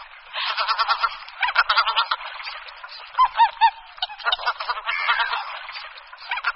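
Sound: greater white-fronted goose calls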